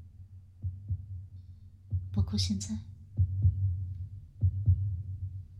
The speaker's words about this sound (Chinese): 什么声音？你说的这种类似鼓点的声音，是无时无刻都有的吗？像心跳声那样吗？